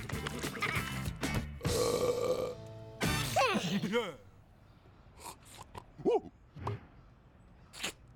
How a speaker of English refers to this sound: Red and Yellow chomp through all the snacks, and Red collapses with a satisfied burp.